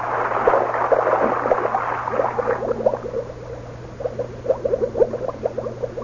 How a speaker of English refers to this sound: I sunk down through that green water. The only sound was the air bubbling out of the helmet valve.